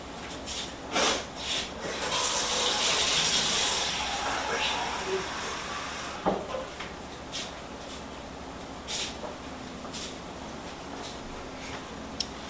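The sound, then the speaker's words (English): Water runs from a tap with a steady, bright hiss for a few seconds as someone gets some water, then shuts off, leaving faint clicks and soft handling noises. “I have to get some water.”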